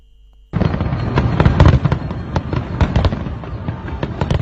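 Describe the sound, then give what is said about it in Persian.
Fireworks going off in France on New Year's Eve (Saint-Sylvestre night), a dense, continuous barrage of crackling bursts and sharp pops, loud throughout after a brief quiet start, with no voices. “فرانسه امسال نیز شب سن سیلوستر را با آتش بازی شروع کرد.”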